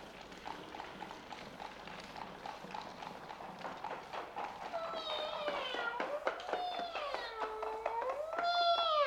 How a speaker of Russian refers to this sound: Карета подъезжает к замку